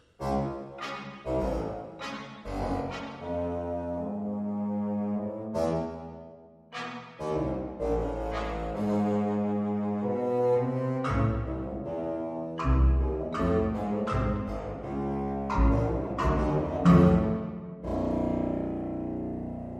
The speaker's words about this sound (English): Even lower, with an ominous buzzing voice, is the contrabassoon.